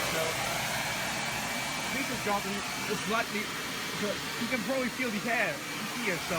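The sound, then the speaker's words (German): Blade server chassis cooling fans roar loudly with a steady, dense whooshing hiss that never lets up, while people talk over the constant noise. “Blade Center Lüfter in Betrieb.”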